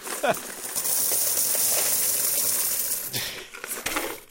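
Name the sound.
coins rattling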